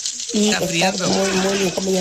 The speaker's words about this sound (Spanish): Oye, ¿qué estará friendo? ¿Escucharon si estaba friendo algo? No, si está friendo algo, mira.